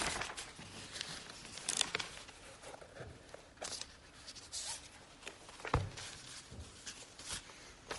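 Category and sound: household object, rustling paper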